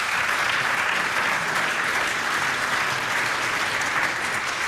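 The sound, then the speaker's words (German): Steady applause from an audience fills the whole stretch, a dense, even wash of many hands clapping at constant loudness with no voices standing out. “Vielen Dank, einen Applaus für diese schnelle Runde.”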